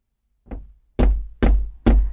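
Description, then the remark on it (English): A fisherman knocks four times on the wooden door of a priest's house early in the morning, a softer knock followed by three heavy, evenly spaced thuds, loud with no voices. “Early the next morning, the fisherman went to the priest's house and knocked on his door.”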